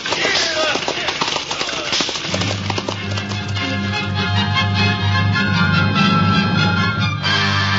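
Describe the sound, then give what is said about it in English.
In an NBC Theater radio version of Great Expectations by Charles Dickens, horses' hooves clatter along the London road in a steady, brisk clip-clop, fairly loud, as sustained orchestral music swells in underneath a couple of seconds in and carries on with them. “The London road stretched out under the horses' feet.”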